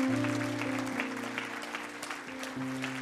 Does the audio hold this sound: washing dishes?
no